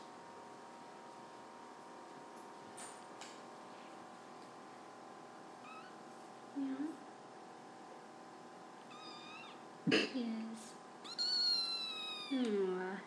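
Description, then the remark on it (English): A kitten of about two months meows several times in short, high-pitched cries, the later calls rising and wavering, with a person speaking briefly in between. “If I meow, sometimes he'll respond.”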